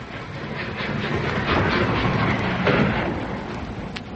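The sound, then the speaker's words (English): A train rolls into a station with a steady, fairly loud rumble and a faint rhythmic clatter of wheels, gradually swelling, with no voices. “And would you believe it, the train was on time.”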